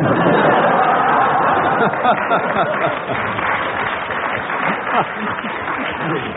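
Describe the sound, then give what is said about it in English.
A show audience breaks into steady applause after Ian Messiter leaves his dais and slips a message to Lance Percival, a dense wash of clapping with some chatter and laughter mixed in, holding loud for several seconds before easing slightly. “That round of applause, by the way, was because in the show, Ian Messiter left the dais where he sits beside me and slipped a message to Lance Percival.”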